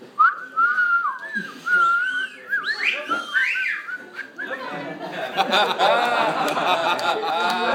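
A melodic whistled tune wavers and slides for a few seconds, clear, then gives way to a burst of lively chatter and laughter from several people.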